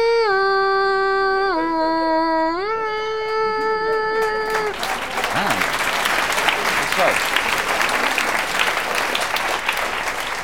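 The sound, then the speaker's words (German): A sustained, reedy melody, a second main theme from the film Spiel mir das Lied vom Tod, holds a few long notes, then loud, dense audience applause breaks out and continues steadily to the end. “Ja, ist schön, wenn an dieser Stelle schon Beifall kommt.”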